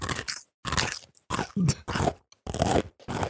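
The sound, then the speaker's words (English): Loud crunching as someone bites into a crisp snack, several sharp crackly bursts in quick succession separated by brief pauses, with no talking. “Crunch noise. What are you eating”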